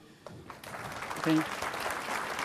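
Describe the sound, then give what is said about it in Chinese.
Audience applause welcoming a lecturer before a talk titled Microsoft SQL Server 2016 security overview builds quickly into a steady, dense wash of clapping that holds for a couple of seconds, with a brief murmur of voices underneath. “题目为 Microsoft SQL Server 2016安全概观，让我们用热烈的掌声欢迎。”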